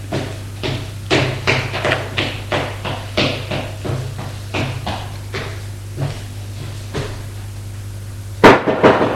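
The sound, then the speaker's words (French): A maid knocks on the door of a small first-floor sitting room: a long run of sharp knocks, roughly a dozen or more in quick, slightly irregular succession over a steady low hum, ending in one louder, heavier thud. “frappe à la porte et le fait entrer.”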